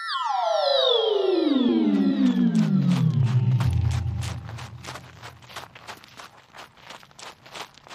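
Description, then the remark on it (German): A loud descending whoosh fades out, giving way to steady footsteps of a person walking for exercise at an even, brisk pace, clearly audible with no one talking. “Du hast schon 224 Kalorien verbrannt und deinem Tagesziel von 8000 Schritten kommst du auch immer näher.”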